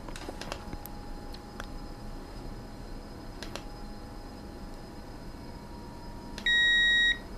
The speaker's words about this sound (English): Did we all hear that beep? That means I can talk.